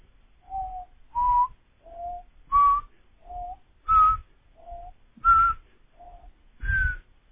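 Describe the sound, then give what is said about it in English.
A person whistles about ten short, tongued notes at a steady pace, alternating between a lower pitch and a slightly rising higher one, as a tongued-note exercise for horn playing, with no talking. “Okay, some people feel better about it if we approach it like a whistle.”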